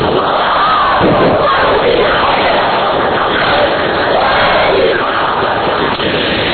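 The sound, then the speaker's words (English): A large crowd loudly chants a Lebanese salawat together, a dense, continuous roar of many voices in unison that holds steady for several seconds without pause. “Now I need to hear a Lebanese salawat.”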